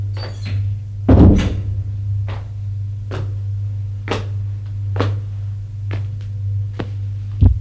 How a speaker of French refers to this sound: Venez, nous allons aller à la salle à manger. Elle va ouvrir une porte qui se trouve à gauche de l'entrée. Entrez.